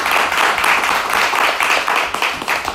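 A crowd applauds steadily, a dense crackle of many hands clapping at an even, loud level throughout with no pause, and no voices rising above it.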